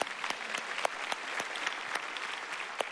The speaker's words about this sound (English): Yes, let's applaud that.